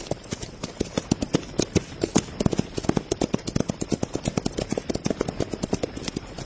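Horse hooves clip-clop in a quick, steady rhythm, many sharp knocking steps, fairly loud, with no talking over them, as a rider rides off back to town.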